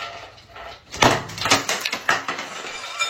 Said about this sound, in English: She goes into her bathroom with a bucket of ice and throws it as hard as she can into the tub, and she yells.